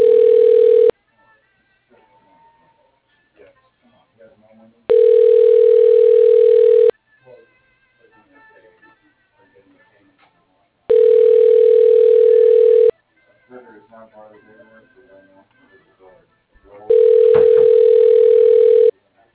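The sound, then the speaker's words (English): A telephone ringback tone during a call transfer: four steady electronic buzzes, each about two seconds long, repeating every six seconds, with faint background noise in the gaps. “Your call is being transferred. Please hold.”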